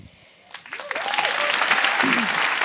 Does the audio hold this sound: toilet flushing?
no